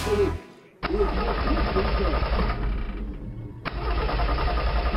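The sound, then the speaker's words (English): A car engine cranks in several loud bursts, stopping briefly and grinding over again without catching, a steady mechanical churn with no one speaking; a woman's car failing to start in an almost empty store parking lot as it gets dark. “Now her car won't start.”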